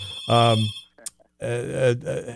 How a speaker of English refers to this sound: So our other phone is ringing here.